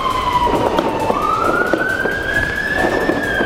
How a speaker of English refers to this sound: Yes, friends, I hear sirens off in the background, but there's no cops in sight.